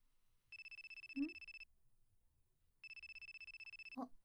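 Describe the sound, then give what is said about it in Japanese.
A mobile phone rings with two bursts of a rapid, buzzing electronic trill separated by a short pause, a brief vocal sound in between and a click at the end; it is an incoming call from a boyfriend. “彼氏から電話だ。”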